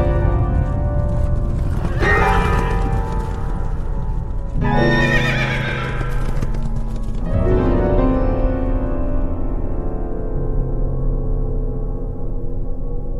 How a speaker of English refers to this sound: The horses turned for home. They were trying to get him to stop the race. The horses went scattering.